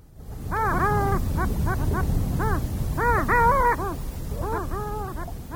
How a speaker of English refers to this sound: Hear that? That's our bird of the month for January, the long-tailed duck.